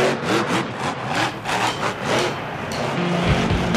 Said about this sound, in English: An Escalade is a 1,500 horsepower monster truck. Got 24-inch spinner rims on 66-inch tires, purple neon lights, a 1,500-watt kicker sound system, and a lot of attitude.